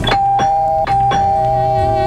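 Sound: doorbell ringing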